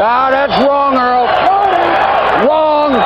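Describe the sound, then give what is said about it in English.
A dense, loud baseball stadium crowd roars continuously while a prominent voice bellows long, rising-and-falling jeering calls over the din, repeated several times. “Walks away, comes back again. This is the crowd.”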